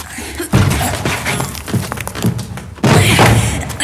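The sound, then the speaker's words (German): Heavy thumps and thuds as someone tries to force open a door stuck fast after 3,400 years, loud, with two big impacts and a scattering of smaller knocks and rattles between them. “Aber vielleicht führt diese Tür da ins Freie. Könnte ja sein. Okay, komm, wir versuchen sie zu öffnen.”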